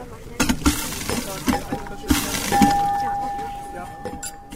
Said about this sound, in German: Jetzt mache ich ein paar Gläser sauber. Jetzt fülle ich mein Glas.